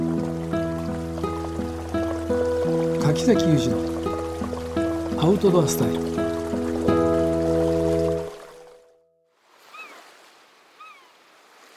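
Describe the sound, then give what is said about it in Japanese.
Ocean surf washes along the shore beneath a musical jingle and a man's voice, then continues alone for a few seconds as a soft, swelling hiss with faint bird cries. “海の音が聞こえてます ね、 ね、 はい、 こうなんていうの、この音を聞くと海沿いの風を感じる、 ね、あ、本当にいい気分ですね。”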